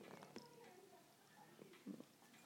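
cat purring and meowing

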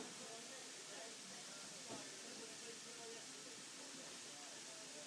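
steam train hissing

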